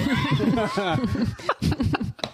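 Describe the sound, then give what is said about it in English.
A person makes a wavering, drawn-out vocal moo like a cow, fairly loud, then breaks into short breathy bursts of laughter. “You can hear them moo.”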